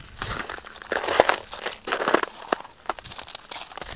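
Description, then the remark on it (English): Footsteps crunch at a steady walking pace over snow frozen into solid ice in bitterly cold weather, while walking a dog; each step a crisp crackle with brittle grainy texture, and no voices. “Well, it's not really snow anymore, it's like solid ice, because it's ridiculously cold at the moment, and all the snow has turned to ice. You can probably hear it.”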